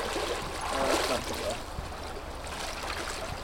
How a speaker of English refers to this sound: comes across a small stream leading into the creek. The water here is shallower and allows a safer entry.